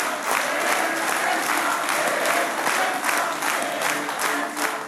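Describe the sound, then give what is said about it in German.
SPD supporters at a party for the Hamburg Bürgerschaft election clap and cheer steadily for about five seconds, a dense wash of applause with scattered whoops, loud and sustained without pause. “Heute ist der Tag nach der Bürgerschaftswahl und naja, einmal können wir die SPD noch jubeln lassen, oder?”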